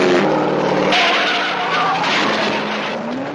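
A race car brakes at a curve on a winding road through a ravine in the Red Canyon and slides off the road, busting through a white wooden barricade; its engine roars as tires screech and skid in a long, loud, continuous grinding slide, with shifting harsh noise and a rising whine toward the end.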